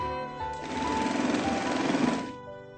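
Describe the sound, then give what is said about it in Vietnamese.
A sewing machine stitches a hem on fabric lined with soft paper. It runs for about two seconds, a steady rapid mechanical whir with a fast needle rhythm, starting and stopping cleanly over a faint background hum. “Ta dùng thêm giấy mềm lót trong vải để mai viền.”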